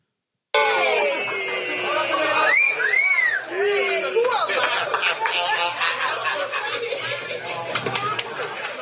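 A group of journalists whistles, with rising and falling tones, then breaks into scattered, ragged clapping, all over a steady background of crowd chatter.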